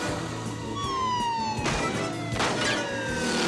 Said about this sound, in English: A police motorcycle races past, followed by a second. The cop on the second shoots at the first.